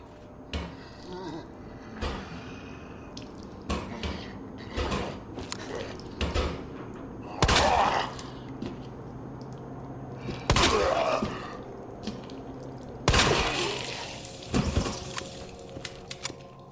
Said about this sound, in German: Ich meine, das ist natürlich ein blöder Witz, weil es ist tatsächlich ein korpulenter Zombie und natürlich hämmert er gegen den Snackautomaten, weil der wahrscheinlich sein Geld gefressen hat oder so.